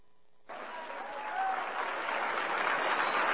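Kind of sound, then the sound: crowd, tepid audience applause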